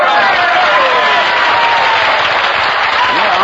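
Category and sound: crowd, audience applause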